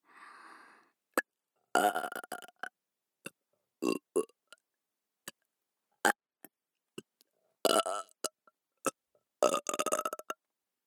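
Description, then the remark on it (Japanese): Several loud burps, each a rough, drawn-out belch lasting about a second, separated by short pauses with faint clicks and small mouth noises. No talking. “ゲップで興奮する変態”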